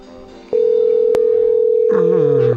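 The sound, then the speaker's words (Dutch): A telephone ringback tone heard while placing a phone call: one steady, mid-pitched electronic hum held for about two seconds, with a voice starting to talk over its final stretch before it cuts off. “Misschien verwacht hij al niet dat ik al bel.”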